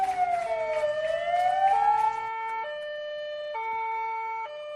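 emergency vehicle sirens wailing

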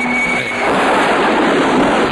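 car driving

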